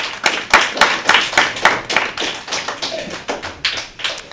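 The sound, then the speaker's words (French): A small group claps for a few seconds, the sharp hand claps quick and irregular, thinning out slightly toward the end with no voices over them, applauding three CE2 pupils who play the first round of a guessing game. “On peut les applaudir.”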